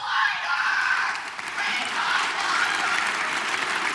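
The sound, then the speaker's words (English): Republican legislators in the Wisconsin state assembly rise and applaud and cheer loudly and continuously during a speech, drowning out a protester: a dense wall of clapping that holds steady for the whole stretch with only a brief dip partway through. “As the protester was led out of the gallery, Republicans rose to cheer, gradually getting louder until they drowned her out.”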